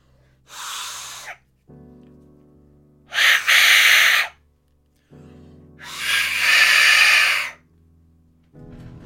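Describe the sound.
An Aztec death whistle is blown, giving three harsh, airy, screeching blasts, each about a second long and loud, separated by quieter low, breathy droning pauses. No one speaks.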